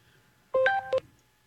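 telephone ringing

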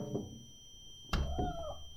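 cat pawing

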